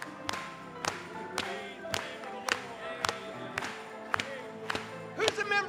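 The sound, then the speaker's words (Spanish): An audience claps for the Lord in steady unison, about ten sharp claps at an even, brisk beat, over sustained worship music with singing voices underneath. “Vamos a aplaudirle.”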